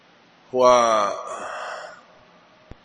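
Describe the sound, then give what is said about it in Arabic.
A single heavy, voiced breath, a vocal imitation of a panting dog's exhale lasting over a second, followed by quiet and a faint click. “اللهث بفتح الهاء وارتفاع النفس مع العياء، ومن دلائله إخراج الكلب لسانه من العطش.”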